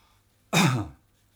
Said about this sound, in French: ça me donne envie de tousser